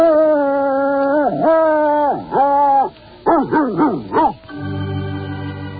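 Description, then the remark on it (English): A dog, Toby the Wonder Dog, howls in long, wavering tones, then breaks into a run of rising and falling whimpers, loud, ending on a steady buzzy drone. “That's the strangest looking dog I've ever seen.”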